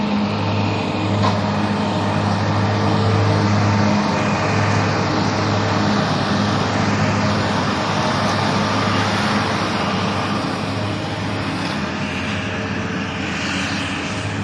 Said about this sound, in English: And I'm going to walk past this lawnmower. One of the big park Toro tractors.